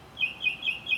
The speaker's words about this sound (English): That's a nice little guy up there. I think that was sent by God, that bird.